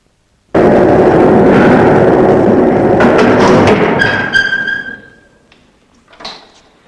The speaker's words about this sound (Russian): Только двери не хлопай, лифтер ругается.